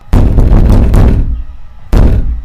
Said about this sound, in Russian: Стук повторился вновь, но уже исходил от входной двери. Затем снова над потолком.